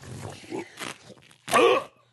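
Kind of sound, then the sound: human body sound, gagging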